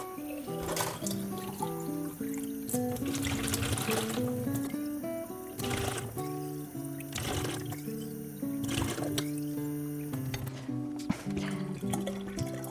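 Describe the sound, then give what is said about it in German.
Water pours steadily into a watering can to dilute dandelion plant manure, five parts water to one part manure, making a fertilizer; a continuous loud gush with splashy bursts and hollow, ringing tones as the can fills; no one speaks. “Also wir haben jetzt einen Teil von dieser Pflanzenjauche. Wir nehmen 5 Teile davon Wasser.”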